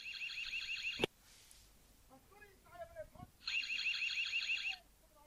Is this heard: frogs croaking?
no